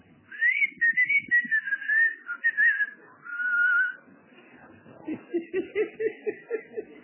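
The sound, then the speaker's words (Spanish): A person whistles a wavering, melodic tune for a few seconds, fairly loud, to call someone to come out to the door, then breaks into a short burst of rhythmic, chuckling laughter. “Pero voy a buscar, le toco el timbre de bicicleta o a veces le chiflo.”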